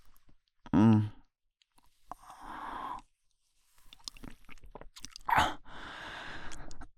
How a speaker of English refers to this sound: I swallowed. See?